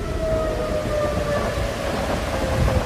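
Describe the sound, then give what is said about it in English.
Strong wind of around 50 miles an hour or more roars steadily through trees, a loud, continuous rushing noise with a thin whistling tone riding on top. No one speaks. “It sounds like a freight train is coming through the trees here.”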